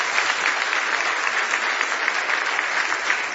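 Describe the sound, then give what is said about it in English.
Steady applause from a church audience giving the Lord a hand clap of praise, many hands clapping together in a dense, continuous patter at fairly even loudness, with no one speaking over it. “Go ahead and give the Lord a hand clap of praise.”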